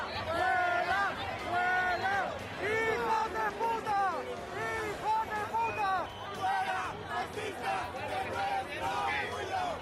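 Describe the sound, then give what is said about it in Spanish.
A crowd shouting at members of the Ciudadanos party as they are forced to leave the Pride March after objects were thrown, many voices yelling in rising, rhythmic bursts over a constant roar of babble, loud and continuous throughout. “Lo hacían entre gritos como estos.”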